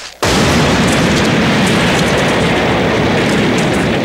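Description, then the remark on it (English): After a split second of quiet, a bomb blast bursts in suddenly and loudly as a bomb, opened as a gift, blows up an entire shack. A sustained, dense roar and crackle of destruction follows and stays at full volume throughout, with no voices. “they go to open it, and it's a bomb, and the entire shack blows up as Otto runs away.”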